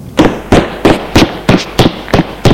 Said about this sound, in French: Monter des escaliers.